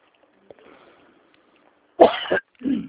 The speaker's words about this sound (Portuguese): Opa, e essa tosse aí?